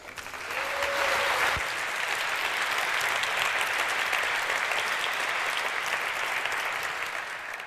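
Sustained audience applause, a dense, even wash of clapping hands that holds steady for several seconds, with a brief whistle-like tone early on.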